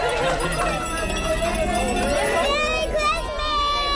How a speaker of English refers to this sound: The train doesn't stop. Just like the movie, the kids leap from their seats and begin shouting. And when the train slows enough for Santa to board the train, the kids go crazy.